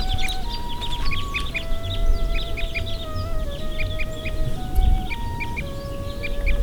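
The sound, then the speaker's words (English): A flock of about 15 crossbills flying overhead and calling, a scatter of sharp, repeated chip notes coming in quick bursts above a steady low rumble and faint sustained tones. “We've seen 25 crossbills in 20 minutes, and people tend to think they're a rare bird.”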